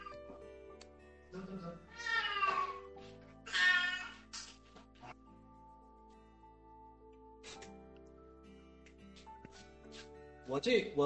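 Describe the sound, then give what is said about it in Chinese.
A cat meows loudly, two or three drawn-out cries in quick succession, followed by quieter stretches with a few brief sounds and another short meow near the end, as its owner puts it out of the room. “我把我的猫给弄出去啊”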